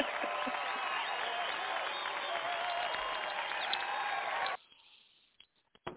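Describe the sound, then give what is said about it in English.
A dense crowd applauds steadily for about four and a half seconds, mixed with a murmur of voices, then the clapping cuts off abruptly into near silence with a few faint clicks. “You know, now we found the bell, and then, you know, then we followed up with some applause.”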